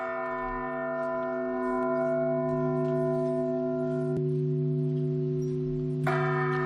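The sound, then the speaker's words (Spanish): Church bells toll with a deep, lingering hum, and fresh strikes ring out twice near the end, each blooming into a rich, sustained resonance. No voices are heard. “No te preguntes por quién doblan las campanas.”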